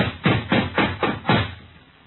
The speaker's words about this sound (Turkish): Açlık ve yorgunluktan bitkin düşmüştü ki ileride dağın eteğinde bir kulübe gözüne erişti. Eve yaklaştı ve kapıyı çaldı.